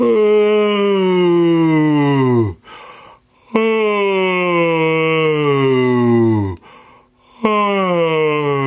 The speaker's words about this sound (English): So what we're gonna do is maybe widen and yawn. But don't widen your mouth so much. Don't over-articulate it. Just enough. And as you're yawning, bring your mouth shut, but keep the yawn in the back happening like this.